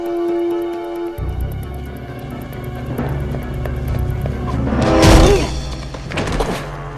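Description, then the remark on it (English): The passenger door of a police car is flung open with a heavy thunk, knocking a running thief to the ground, followed by a second bump a moment later, over a steady low rumble and a brief tonal hum at the start. “The thief turns back on himself and runs towards the police car. As he approaches, the passenger door is flung open, knocking him to the ground.”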